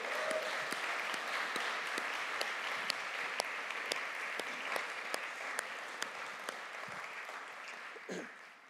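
A crowd claps steadily for several seconds, a dense, even wash of applause with a few sharper individual claps standing out, tapering slightly near the end.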